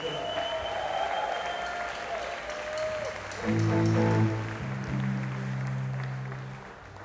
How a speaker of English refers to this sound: And let's give a big round of applause to everyone that played tonight.